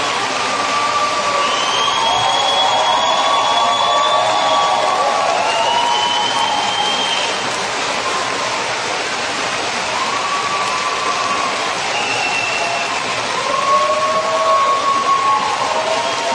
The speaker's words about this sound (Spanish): La ovación, ¿eh? Anthony Hopkins agradece a su público, a muestras de afecto.